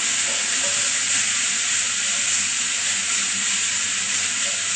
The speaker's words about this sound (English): It's a one pot dish, so we're going to put the oil into a frying pan, an electric frying pan. Just give it a swirl, let it heat up a little bit, and then put your onions inside. Fry the onions a little until they're golden brown.